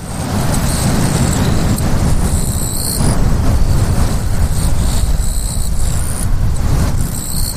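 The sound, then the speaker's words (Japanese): A Japanese katydid sings in repeated high, buzzing bursts, partly buried under a loud, steady low rumble like wind or passing traffic that fills the whole recording. “ちなみに今のキリギリスの声です。”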